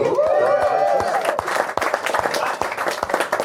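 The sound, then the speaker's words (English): A crowd at a Fashion Week event breaks into applause for a couple's 22 years of marriage, with many hands clapping in a dense, steady patter and a few sharper individual claps standing out, while a voice or two calls out briefly at the start. “All marriage year numbers get applause.”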